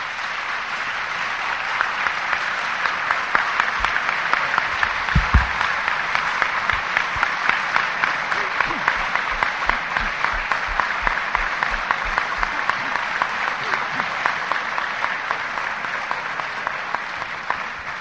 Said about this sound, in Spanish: Yo creo que este aplauso lo escucha John desde donde está, y se lo platicarán además.